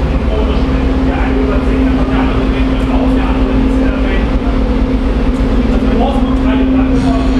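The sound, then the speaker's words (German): Railway platform ambience at a Deutsche Bahn station in Germany, where several trains stand and a train terminates: a steady low rumble and a constant droning hum from an idling train, with busy background noise and faint indistinct voices throughout. “Am Bahnsteig.”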